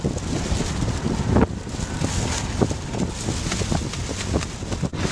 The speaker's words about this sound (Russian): В этот день ветер дул с Леванта, то есть с материка в восточной части Средиземного моря. Он был настолько сильным, что многим кайтсерферам было сложно добраться до берега в конце заплыва.